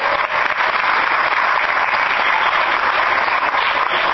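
Steady, dense applause from an audience fills the whole stretch, loud and continuous with many hands clapping at once and no one speaking over it.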